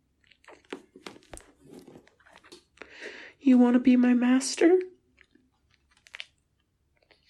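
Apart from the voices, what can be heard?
licking an ear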